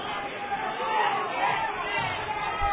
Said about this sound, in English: Crowd's getting pretty rowdy.